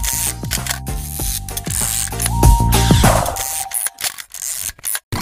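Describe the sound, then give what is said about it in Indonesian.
Crisp mechanical clicking and ratcheting of an analog film camera's shutter firing and its advance lever being wound as someone is photographed, repeated in quick bursts over several seconds with no talking. “Jadi kamu difoto nih sekarang pakai budak cekrek, baru jadinya besok.”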